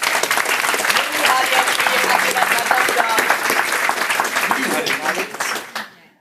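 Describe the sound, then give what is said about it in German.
A large audience applauds steadily as three people who carried out a project are called onto the stage, a dense wash of clapping that holds for about five seconds before thinning out and fading, with some crowd noise and cheering mixed in. “die Bühne zu betreten. Die haben nämlich so ein Projekt gemacht, das vielen Menschen, ja, euer Applaus.”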